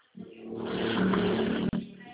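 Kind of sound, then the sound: vehicle, truck passing by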